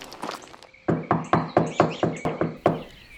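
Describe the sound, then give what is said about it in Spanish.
A steady run of about nine firm knocks on the door of a house one morning, evenly spaced, after a few softer taps, as a visitor calls for the woman inside, who does not answer; faint chirping in the background. “Luisa estuvo un rato tocando la puerta y llamando a Teresa, pero Teresa nunca respondió.”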